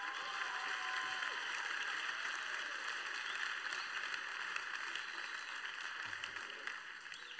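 Steady applause from an audience fills the whole stretch, a dense wash of clapping hands that stays fairly loud and even before easing off slightly at the end.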